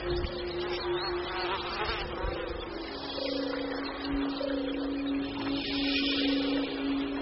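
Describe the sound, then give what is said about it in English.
A dense, continuous drone of countless flies buzzing together, a steady wavering hum with layered high whines that swell and fade slightly over several seconds, with no talking. Vast swarms of flies infest a poisonous oasis whose water is saltier than the sea. “As if to underline the horror, the place is infested by vast swarms of flies.”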